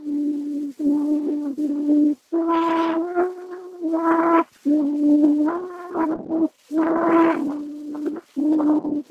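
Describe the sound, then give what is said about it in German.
Old, somewhat noisy recording, with some of the noise reduced, of a child singing the French children's song Au clair de la lune: sustained, mid-pitched notes in short phrases, a few rising higher, separated by brief pauses, over a faint hiss. “Da singt offenbar ein Kind irgendein Lied.”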